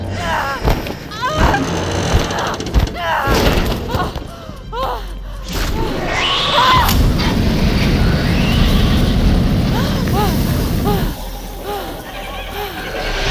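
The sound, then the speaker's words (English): A heavy metal door rumbles and grinds as it slides shut, with loud thuds and clanks near the start and a long, loud scraping roar, under strained voices. “Oh, the metal door!”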